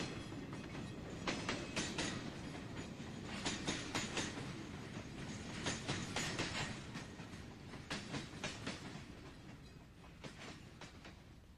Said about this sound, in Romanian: Și roțile trenului sună mai departe.